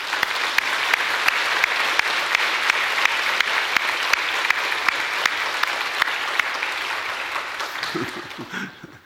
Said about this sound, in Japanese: ハレルヤ、主よ、感謝。もう一度拍手しましょうか。